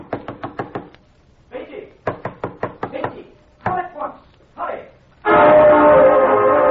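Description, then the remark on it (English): A rapid series of sharp knocks on a door in the middle of the night, two bursts of five or six raps each, followed by an urgent voice calling out loudly. “It was Anderson at the door.”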